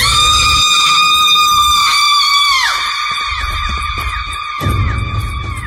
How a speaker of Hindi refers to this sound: अतुल ने रुककर जैसे ही पीछे देखा तो एक जोरदार चीख की आवाज आई।